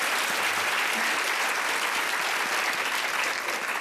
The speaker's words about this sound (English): So if we could ask you to, well, firstly, let's give a big round of applause to these wonderful women.